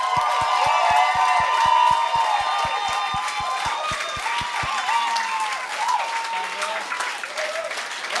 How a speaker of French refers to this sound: Hey, mesdames et messieurs, bonne main d'applaudissements.